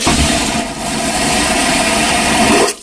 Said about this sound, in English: Airplane toilet, just a suction toilet. Hold on. He has it. Okay, hang on a minute. Coop has an airplane toilet. Go ahead and hit it.